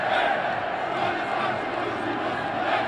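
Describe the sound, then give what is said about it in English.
A stadium crowd of tens of thousands of Bosnian fans roars and cheers for each member of Bosnia-Herzegovina's starting lineup at a match against Argentina, a dense, steady wall of voices with shouts rising out of it, loud throughout with no pauses. “Every member of Bosnia-Herzegovina's starting lineup gets a cheer.”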